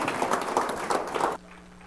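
A church audience claps together in praise of God at a morning service, a dense crackle of many hands with steady rhythmic swells, then cuts off abruptly partway through, leaving near quiet.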